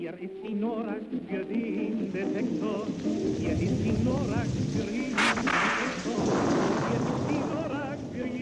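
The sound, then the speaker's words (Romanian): Steady rain and a deep, rolling evening thunderstorm rumble fill the background, with a sharp crack of thunder about two-thirds through, while a voice talks over the storm. “Seara, furtună.”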